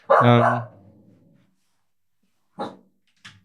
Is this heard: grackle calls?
no